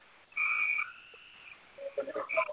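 A frog croaks loudly, one drawn-out nasal call followed by a burst of quicker, choppy croaks. The sound is thin and muffled, as if heard over a phone line, with no talking.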